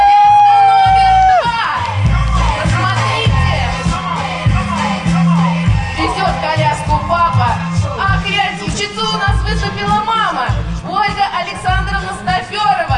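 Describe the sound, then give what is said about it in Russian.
A loud, steady wash of audience applause and cheering, with scattered shouts and whoops rising out of the crowd, as a decorated baby stroller entry in a contest rolls onto the stage, running continuously for the whole stretch over a low rumbling backdrop. “На нашу сцену выезжает под ваши дружные аплодисменты.”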